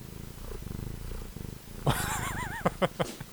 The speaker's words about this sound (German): Hat man das gehört? Ja, dieses Schnurren, ne? Ja, genau, ich habe sie vors Mikro gehalten.